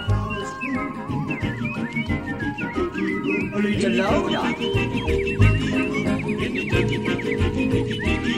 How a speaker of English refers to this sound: All the birds sing words and the flowers croon.